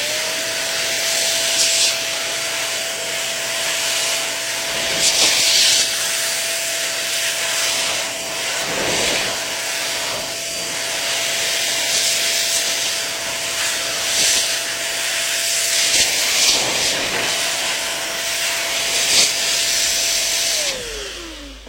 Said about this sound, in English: I'm going to blow some air off the keyboard here with my handy overpriced plug-in air duster.